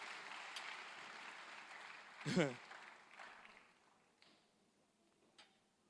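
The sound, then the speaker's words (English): An audience claps for a group who have just finished and are sitting down, in a dense, steady patter that gradually fades out, with a short voiced shout rising over it partway through. “Clap for them.”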